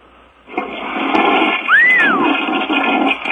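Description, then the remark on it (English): A man flushes a toilet: a loud, steady rush of water starts abruptly and roars on for about three seconds, with a short high whistling squeal rising and falling partway through. No one speaks. “He's flushing the toilet.”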